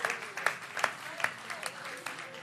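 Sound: audience clapping hands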